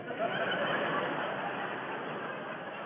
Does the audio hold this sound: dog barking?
no